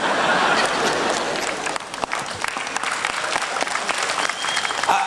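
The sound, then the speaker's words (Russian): Steady, dense applause from an audience, loud throughout, with a thin high whistle rising above the clapping near the end. “О, даже свист, как у попсы на концерте.”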